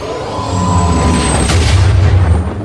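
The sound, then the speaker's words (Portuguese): Heavy, continuous low rumbling of large explosions in a bombardment ordered to clone troops aboard Venator warships, with a sharper blast surging about halfway through. Loud, with no voices. “O bombardeio começa. Em instantes, o estrondo das grandes explosões silenciava parte da história da República, dos clones e dos Kaminoanos.”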